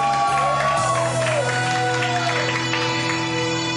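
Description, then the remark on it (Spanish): A large crowd cheers and applauds loudly and steadily, with shouts and whoops rising over a sustained, tonal musical backdrop throughout. “Fuerte aplauso.”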